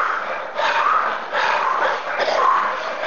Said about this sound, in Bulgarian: Вдишване през устата, издишване през устата. Издишване с звук.